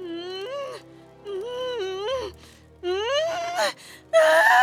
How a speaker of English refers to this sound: Soon enough, Kuzole was heavy with child. Her cries filled the air. The baby was coming.